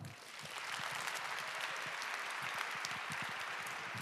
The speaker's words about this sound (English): So for now, give a big round of applause